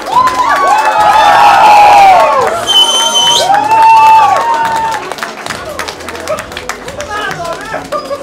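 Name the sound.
audience applause and cheering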